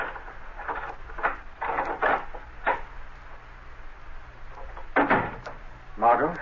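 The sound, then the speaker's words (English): A key rattles and scrapes in the lock of an apartment door with a run of short metallic clicks, then the door opens with a louder clunk and creak near the end, otherwise quiet. “Margot Lane is unlocking the door to her apartment”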